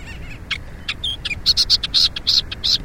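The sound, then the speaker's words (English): A Millerbird's song. The Millerbird is a small warbler named for the Miller moths it eats. A rapid series of high, bright chirps and short trilled notes, quickening into a regular rhythm, heard alone over a steady low background hiss. “24 Miller birds. Until now, these small warblers, named for the Miller moths they eat”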